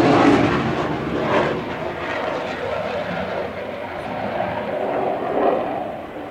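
A loud, steady airplane engine drone fills the whole stretch, a broad rushing roar that swells slightly at the start and near the end as the aircraft passes by.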